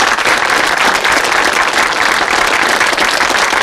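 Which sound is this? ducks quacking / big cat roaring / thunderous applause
thunderous applause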